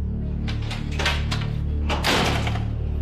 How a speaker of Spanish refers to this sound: Esa reja suena horrible, usted la abre y suena horrible, lo mismo la puerta. Eso tiembla toitico esto al abrir la puerta o cerrarla. ¿Cómo no va a sentir uno?